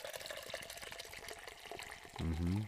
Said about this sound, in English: Before we get started with this week's episode, you already know I gotta pour up this drink.